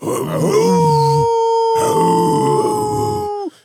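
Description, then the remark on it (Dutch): A person's voice mimics a deer's low, guttural bellow while a second voice overlays a long, steady wolf-like howl that holds for about three seconds before cutting off abruptly. “Doe nog even die burk. Van een hert.”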